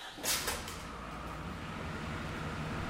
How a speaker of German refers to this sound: Und jetzt kann vielleicht der Herr Barth mal so einen LKW starten, dann hören wir, wie das klingt.